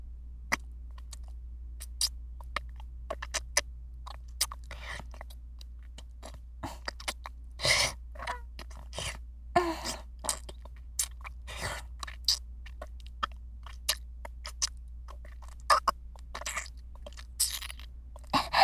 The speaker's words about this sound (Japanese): まずは、キスからかな。普通のキスだけでも、ドキドキするね。せっかくだし、大人のキスもしよっか。